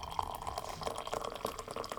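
Liquid pours and splashes close by, a steady trickling stream broken by drips and small splatters, as if coffee is running over and spilling onto a surface.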